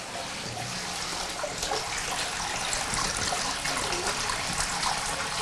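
Warm, mineral-rich water trickles and splashes steadily from an underground spring, a continuous bright babbling rush that stays even throughout, with no voices.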